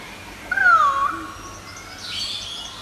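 A male peacock gives one loud, wailing, cat-like call that slides downward, followed by fainter high-pitched chatter from rainbow lorikeets and pied currawongs in the background, with no one talking.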